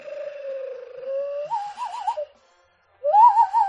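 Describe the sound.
A bird call imitation whistled by blowing into two cupped hands: a steady hooting tone slides into a quick warbling trill, then after a short silence another rising, wavering warble sounds, fairly loud and alone.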